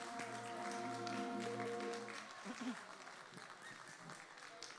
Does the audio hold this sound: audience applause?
yes